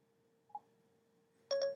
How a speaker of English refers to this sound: If I press and hold the home button until I hear a beep, I can then instruct the iPhone or iPod Touch to play that album, and I want to show you what that sounds like right now. I'm pressing the button and holding it.